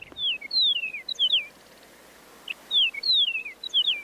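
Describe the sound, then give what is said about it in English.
A Chihuahuan meadowlark sings two matching phrases, each a quick run of clear, high, downward-slurring whistles, separated by a short pause. The song is bright and fairly loud, with no voices. “The research suggested that song differences could help prevent Chihuahuan meadowlarks from breeding with other species, and that eastern and western meadowlarks are more closely related to each other than they are to the Chihuahuan birds.”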